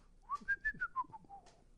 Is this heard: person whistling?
yes